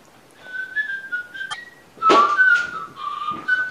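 A person whistles a bright, bouncy melody like Yankee Doodle, with steady held notes and quick steps between them. A brief knock interrupts midway, and no one speaks.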